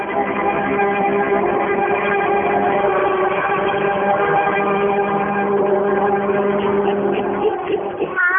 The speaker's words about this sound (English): Hear that chanting and them savage drums? With them begins our story of the Devil Mask. The Devil Mask! The drums have been booming for a solid hour now. We'll probably hear them until well past midnight.